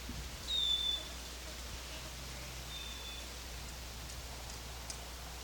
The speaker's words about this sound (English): Wildbird in the background. Wildbird. This is a female.